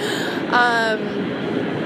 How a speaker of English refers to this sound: So sorry for this additional noise right now. It's got an airplane flying over top.